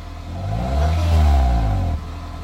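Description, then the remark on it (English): A car engine revs up, its low droning pitch rising and swelling over about a second, holding briefly, then dropping off abruptly as the throttle is released. No voices are heard. “Sure, I can pull it in the garage. Louder? Like, rev it up?”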